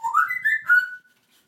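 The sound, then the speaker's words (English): A pet bird, Lily Bird, sitting on top of a cage at the highest point of the arch, sings a loud, clear whistled phrase of rising, sliding notes for about a second, then breaks off into silence. “Right in the centre at the highest bit of the arch, and she's giving it rock all, aren't you?”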